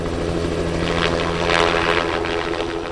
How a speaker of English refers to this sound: This helicopter is lifting Christmas trees off of hills in southwest Washington state that trucks can't get to. A lot of large growers use choppers to move trees fast.